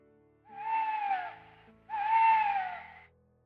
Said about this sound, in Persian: کی بود؟ صدای جغده، میخواد ببینه ما کی هستی.